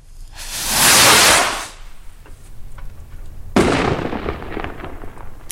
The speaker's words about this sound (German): Ja, und von dem Feiern jetzt zum eigentlichen Feuerle. Der Funken und die Tragete, wir haben es eben gehört, die gehören ja zu jedem Fest.